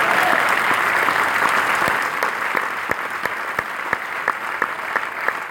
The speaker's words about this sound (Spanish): Si va a darle el aplauso, dale un aplauso al Señor.